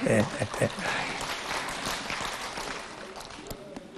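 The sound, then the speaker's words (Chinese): An audience bursts into dense applause, many hands clapping at once in a busy, crackling wash that starts loud and gradually thins out, with a few voices mixed in underneath. “被你们一鼓掌，图腾跑了，重新要找。”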